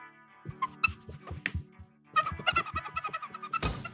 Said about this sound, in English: I'm just playing with my coaster here. It was making like a duck sound.